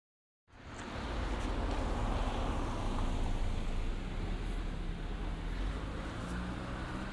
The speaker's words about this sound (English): So I come back and a car is going right by me. That should provide some nice stereo audio there.